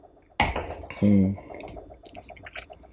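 glasses clinking

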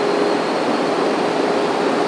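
bus passing by outside

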